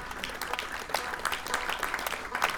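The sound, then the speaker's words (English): A crowd at a stage at MerleFest 2016 claps steadily for the sponsors, Window World and stage sponsor Interflex Company, a dense patter of many hands, sustained throughout without any voices standing out. “So let's give a round of applause for some of our good sponsors.”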